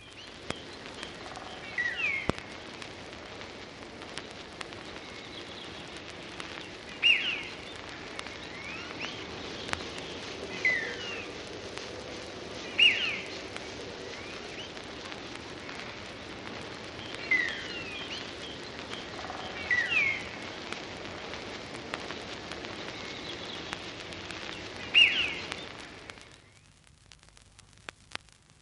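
A starling's spring song of chattering clicks and bright, sharp whistles, repeating every few seconds over a steady background hiss, then cutting off abruptly near the end.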